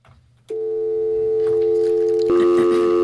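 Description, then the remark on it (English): A telephone being dialed to call a mother's number: after a brief quiet, a steady electronic phone tone sounds, then abruptly switches to a different, higher-pitched tone about two seconds later. No one speaks. “going over to the phone, seeing my mother's number right there, and dialing.”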